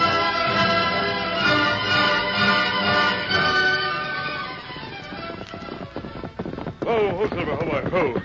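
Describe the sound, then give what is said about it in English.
A horse whinnies with a shaky, wavering cry as hooves clip-clop, over a steady musical backdrop; the whinny rises loudly near the end. “Gosh, what a horse.”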